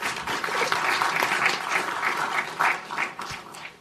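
A crowd applauds steadily, many overlapping claps forming a dense, continuous patter at a fairly loud, even level with small swells, and no voices stand out.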